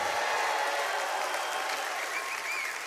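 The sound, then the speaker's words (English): An audience applauds and cheers in a steady, dense wash of clapping that holds at an even loudness throughout, with a brief whistle or whoop rising near the end, responding to a preacher's call to make noise if God has been faithful to them. “Make a little noise if God's been faithful to you.”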